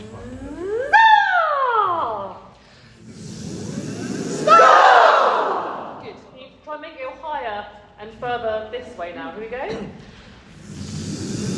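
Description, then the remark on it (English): A crowd of voices imitates a firework: a rising whistle that glides up and falls away, then a loud hissing burst for the explosion, followed by scattered vocal chatter and calls. “And now you can imagine that we're lighting a firework and it's going to go up and then explode and go like this.”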